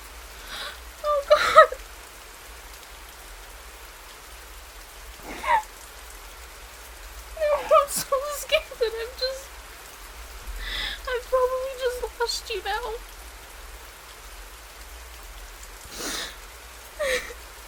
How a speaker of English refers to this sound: I've got you standing out in the rain, and you hate the rain